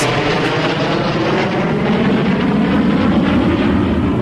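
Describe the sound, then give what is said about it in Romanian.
A loud, steady airplane roar passes overhead, a broad rumbling drone that holds constant throughout with no voices. “Iar avionul?”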